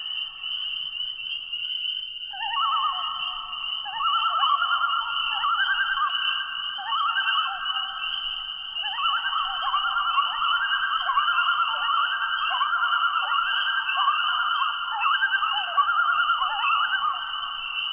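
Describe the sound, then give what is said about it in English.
Loons on a northern lake give echoing calls, long wavering wails that rise and fall in overlapping, siren-like phrases, ringing over a steady, high-pitched chorus of peepers that runs throughout. No one speaks. “The chorus of peepers often provides a sparkling backdrop that enlivens and supports the sounds of other species, such as these echoing calls of loons on a northern lake.”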